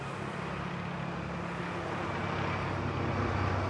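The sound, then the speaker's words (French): Helicopters fly over Brussels outside the European Commission's trade department, a loud, continuous engine and rotor roar with a low hum that fills the whole stretch without fading. Nobody speaks. “Ah oui, il y a des hélicoptères maintenant qui nous survolent.”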